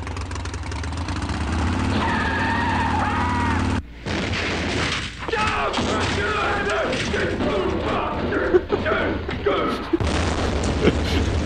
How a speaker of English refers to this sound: Uh-oh. I shouldn't laugh at that, but it just cracks me up every time I hear that. You popped the clutch and flipped your Harley over backwards.